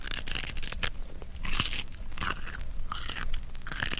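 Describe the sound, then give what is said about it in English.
Popeye crunchily chewing sea spinach in a cartoon: loud, wet, crackling bites repeat in a steady rhythm, about two per second, with no voices over them. “I think I'll try some of this sea spinach.”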